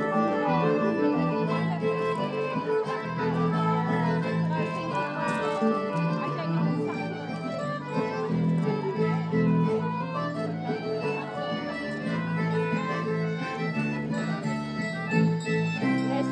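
Hand-turned jingle bell music plays steadily for the whole stretch, a bright, busy tune of layered sustained notes with an even, mechanical pulse and no voices over it.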